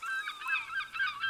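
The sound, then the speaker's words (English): Seagulls calling in a continuous cluster of shrill, overlapping cries that rise and fall in quick waves, moderately faint, with no voices present. “There are seagulls, waves, and the creaking of a ship.”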